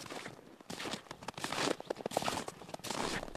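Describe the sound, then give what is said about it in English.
Footsteps crunch steadily through snow on glacier ice, each step a crisp, gritty burst in an even walking rhythm, fairly loud, with no voices. “But the only sound is the crunch of your footsteps around here.”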